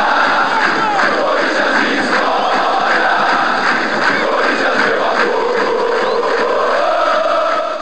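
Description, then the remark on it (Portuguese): A large crowd of Corinthians football fans from an organized supporters' group chants a war cry in unison, loud and sustained, with voices blending into a dense, rhythmic roar that holds steady throughout. “As torcidas organizadas são conhecidas por seus gritos de guerra durante todo evento no qual o clube participa, seja ele esportivo ou político.”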